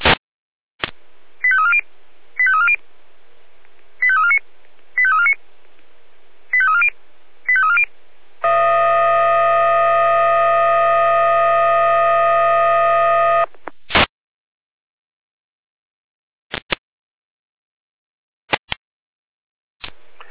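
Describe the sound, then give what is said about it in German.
Fire brigade radio dispatch alarm tones from the Jena control centre, triggered manually using the old pulse: a run of short electronic beeps in quick pairs, then a loud, steady, buzzy tone held for about five seconds, followed by a few sharp radio clicks. No talking. “Leitstelle Jena mit Alarmierung.”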